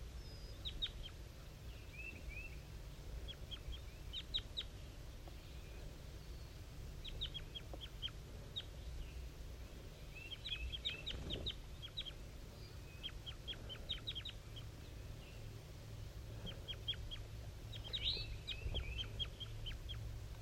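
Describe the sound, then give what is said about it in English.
At 7:50 a.m., a wild bird in the top of a dead pine gives soft, high-pitched calls in quick clusters of short chirps, repeated in bursts throughout over a steady low rumble, with no voices. “Wild bird calling.”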